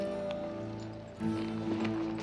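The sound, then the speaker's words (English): A few scattered hoof thuds and shuffling steps from horses milling as their riders get off, partly buried under a steady, sustained musical drone that swells slightly halfway through. “Now off their horses. Get off!”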